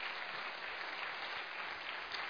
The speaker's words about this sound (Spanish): Si ese aplauso es para esta palabra, que sea fuerte.